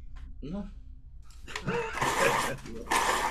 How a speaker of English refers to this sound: What's that noise? The pencil sharpener. There again. Oh, I'll have to get another pencil.